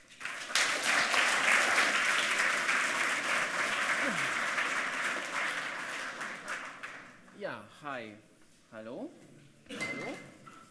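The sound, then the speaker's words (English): A crowd applauds steadily for several seconds to welcome the presenters of a talk on analyzing a modern cryptographic RFID system, a dense wash of clapping that tapers off, followed by a man speaking as the crowd quiets. “So give them a warm applause.”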